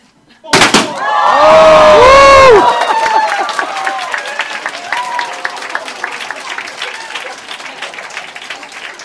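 A sharp burst of party poppers pulled at once at a Christian gathering, followed by a crowd whooping and cheering with loud, sustained applause that gradually settles into scattered clapping.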